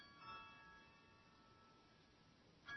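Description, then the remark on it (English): A doorbell chimes with a clear ringing tone that lingers and slowly fades, then a second chime strikes right at the end. It sounds faint, with no one talking. “Doorbell's ringing.”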